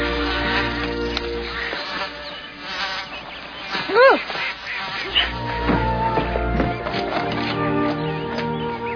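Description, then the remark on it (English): Ducks that live at a house quack repeatedly, a busy overlapping chorus with one loud call near the middle, over a steady buzzing hum like flying insects. “We own ducks. We're duck owners.”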